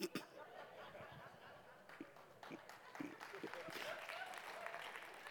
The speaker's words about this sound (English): That's what you clap at.